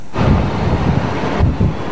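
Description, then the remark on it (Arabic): Storm wind at the Dahr al-Baydar mountain pass on the third day of a storm, with cold air scattering snowflakes, roars in a steady, low, buffeting rush that fills the whole clip, with a brief lull and a fresh gust near the end. No voices. “هكذا وصلنا إلى ظهر البيدر من دون أن نرى ما يمكن تصويره من شدة العاصفة.”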